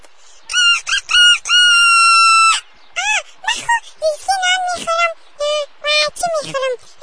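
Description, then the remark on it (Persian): A rooster lets out a long, loud crow near the start, followed by a busy run of short clucking calls from chickens that continue to the end. “خی مرغه خدا چه قسم گرم میکنم؟”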